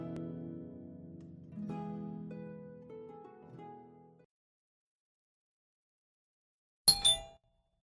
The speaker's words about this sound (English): … was reciting a bedtime story when the front doorbell rang.